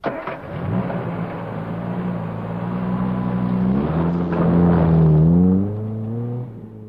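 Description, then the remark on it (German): A car engine starts off and accelerates, its pitch rising through the gears as it revs louder, then eases back slightly at the end, as a man drives an injured angler to the hospital. Steady, with no talking. “Der Mann trug den Angler ins Auto und fuhr mit ihm in das Krankenhaus.”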